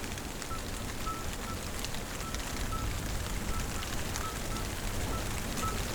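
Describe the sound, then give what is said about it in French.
Steady rain falling at the end of a thunderstorm at the Étang de Varandon in Lozère, France, at 1,100 metres altitude: a dense even hiss of drops with fine crackling patter that holds at a constant moderate level throughout, no thunder and no voices. “Vous écoutez la fin d'un orage.”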